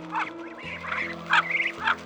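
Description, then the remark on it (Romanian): Agitated birds squawk and honk in a noisy commotion, several harsh overlapping calls bursting out in quick succession over a low steady hum, moderately loud, as frightened chicks cry and hide under their mother's wings. “Au început să plângă și să se ascundă sub aripile mamei lor.”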